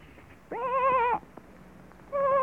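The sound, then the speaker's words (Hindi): A sheep caught among thorny bushes in a forest on a dark night, with wind and light rain, bleats twice with a wavering, quavering tone: one call lasting under a second, then after a short pause a second bleat that is cut off at the end. “तब गडरिये ने पहचाना कि ये उसी की भेड़ की आवाज है।”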